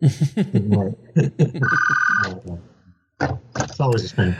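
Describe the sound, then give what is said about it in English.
A phone rings with a short, bright electronic trill lasting about a second, cutting in between stretches of a person talking. “I guess I should have turned this phone on.”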